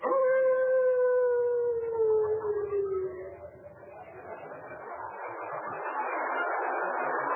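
A chilly night wind howls outdoors in the dark with a long, mournful tone that slowly slides downward, then gives way to a steady, rising rush of hissing gusts. No voices are heard.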